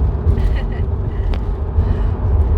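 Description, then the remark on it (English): A car rolls over a rough road, its cabin filled with a loud, steady low rumble and uneven jostling vibration, with faint muffled voices underneath. “I know the vibrations of this road are making me feel good too. They really need to fix this road.”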